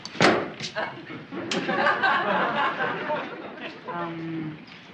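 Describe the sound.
A door thuds shut, followed a second later by a sharp metallic clunk as the lock turns, with muffled voices and faint laughter continuing underneath.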